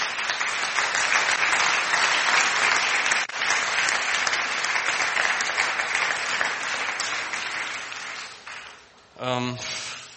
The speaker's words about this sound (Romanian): aș vrea să-i aplaudăm pentru tot ceea ce au făcut ei în acești ani.